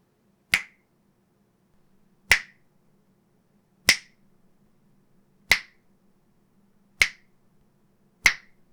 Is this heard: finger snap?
yes